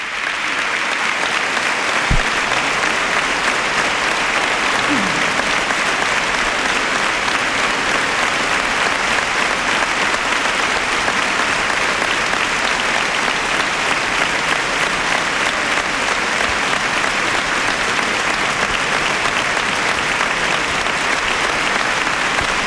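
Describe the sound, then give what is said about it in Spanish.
Sustained, dense applause from a large standing audience in the Teatro Maestranza theatre, applauding the people of Adamuz as public representatives step forward on stage; a steady, loud, continuous wash of clapping with no break and no voices standing out. “el Teatro Maestranza en pie, aplaudiendo al pueblo de Adamuz, se vuelve a poner en pie el teatro cuando los representantes, los servidores públicos se adelantan en el escenario. El aplauso más largo de los que hemos escuchado de momento esta mañana.”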